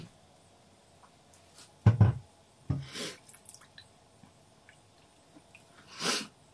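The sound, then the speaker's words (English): A few quick watery splashes and sloshes as blanched spinach is dropped into a bowl of cold water, with a sharp burst, a second slosh, and a softer swish near the end. “Then immediately just put it in your cold water.”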